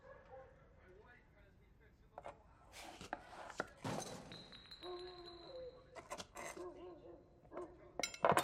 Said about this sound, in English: She slices a beefsteak tomato with a sharp knife.